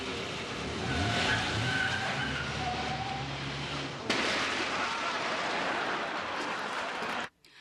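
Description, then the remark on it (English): A car's tires screech and skid across pavement over a roaring engine, loud, then a second burst of rushing noise carries on before cutting off abruptly. No one speaks. “you know I don't allow cars in here.”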